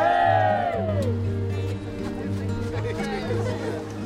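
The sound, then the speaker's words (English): A group of people lets out a loud cheer together, a burst of whoops and shouting voices that swells at the start and carries on as a steady roar for several seconds. “Okay, and on three, big cheer.”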